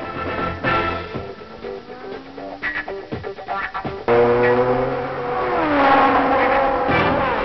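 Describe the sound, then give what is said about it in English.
Formula One race cars roar past in the rain on the wet, oily Monaco Grand Prix circuit, engines revving with rising and falling pitch, the noise swelling into a loud sustained howl in the second half. “Veteran race drivers dispute the adage that oil and water don't mix, and the figure skating of many cars on the wet, oily Monaco circuit would bear them out.”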